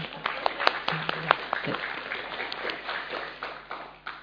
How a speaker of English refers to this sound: Three of them. So big clap for them. Yeah, big applause. You can clap for yourself as well.